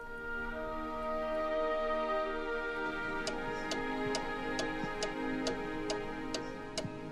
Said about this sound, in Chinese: 1912年英国一家诊所里，一位年轻的军官正陪同他的太太等待医生的诊断结果，诊所墙壁上的挂钟发出的滴答声，使得这段等待的时间越发难熬。